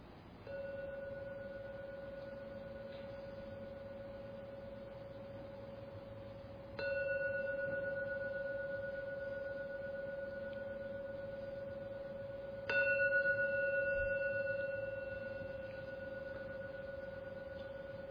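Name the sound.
gong rung three times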